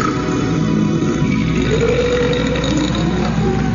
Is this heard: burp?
yes